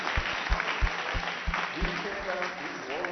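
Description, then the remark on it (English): An audience at a church worship service claps together as a clap offering to the Lord, a dense, steady wash of applause with a loose rhythmic pulse, while voices rise and call out over the clapping toward the end. “Maybe let's just give a clap offering to the Lord.”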